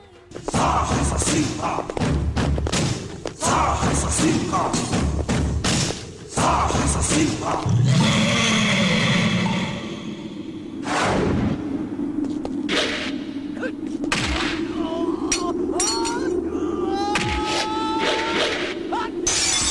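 A fight scene from the action film Kotigoba 1, set in front of the villain's house: a rapid barrage of heavy punches, thuds and slams with whooshing swings, broken by grunts and shouting voices, then a swelling dramatic score under further blows.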